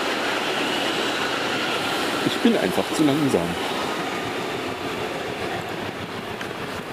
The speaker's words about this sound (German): 5 nach, es kommt eine S-Bahn.